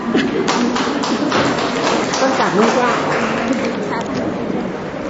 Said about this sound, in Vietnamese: Thưa anh chị em, chúng ta tạ ơn Chúa và cảm ơn 5 người anh chị em được Chúa sai đến đây để chia sẻ với chúng ta, một tràng pháo tay thật lớn.